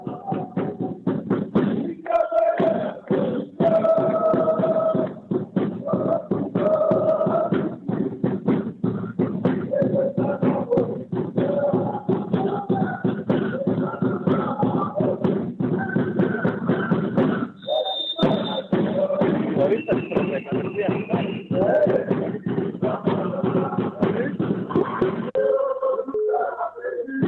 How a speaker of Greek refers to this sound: Και έχουμε και ένα time out, ευκαιρία για να ακούσουμε κάποια συνθήματα από την εξέδρα.